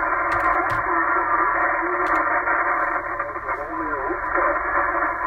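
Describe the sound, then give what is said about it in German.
A faint amateur radio transmission from a station in Rohrbach, thin and narrowband, barely rising above a steady wash of static, with a weak voice fading in and out for about five seconds. “Ja, die Station aus Rohrbach war mir jetzt etwas zu dünn.”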